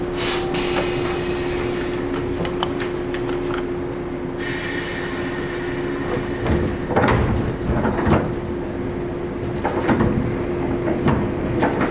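On a Toho Dentetsu train, sliding doors close with a few dull knocks and thuds over a steady electrical hum, after a high chime-like tone at the start.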